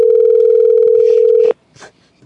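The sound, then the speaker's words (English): A loud, steady telephone dial tone holds one low pitch for about a second and a half, then cuts off abruptly, leaving only faint rustling afterward. “Pick up the phone. Come on.”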